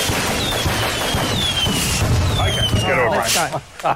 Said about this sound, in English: Fireworks and some lids and some shooting guns in air, all at the same time.